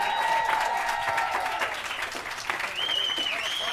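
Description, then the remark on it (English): A crowd claps steadily for the Latinos in Action kids, a dense wash of applause throughout, with a few whoops and high cheers rising over it in the second half. “Can we get one more round of applause for our Latinos in Action kids?”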